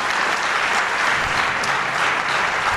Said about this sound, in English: Appreciate you coming. To our panel, let's give them a round of applause.